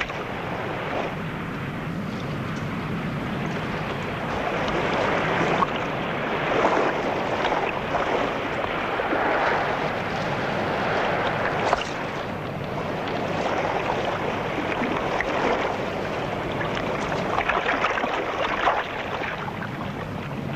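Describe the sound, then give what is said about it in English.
Water churns and splashes steadily as a small boat leaves a raft and heads for a schooner, with wind and surf noise filling the background and no voices. “Leaving the raft, the boat heads for the ship.”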